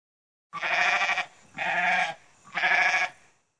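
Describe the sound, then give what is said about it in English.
A goat bleats three times in quick succession, each cry loud and wavering, with brief pauses between calls and no voices around them. “Hi, I am Baby Goat.”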